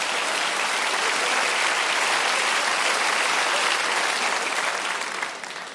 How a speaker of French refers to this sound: Ouais. Vous avez applaudi ça, ouais. Je m'y attendais pas.